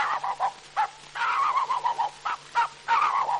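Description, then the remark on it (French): A man imitates a dog with a nasal run of yaps and barks, some short and sharp, others drawn out into whiny howls, in an uneven rhythm, on an Edison record of animal cries remembered from a visit to the Jardin des Plantes. “Mesdames et messieurs, voici les quelques cris d'animaux que j'ai pu retenir en faisant une visite au jardin des plantes. Voici d'abord le chien.”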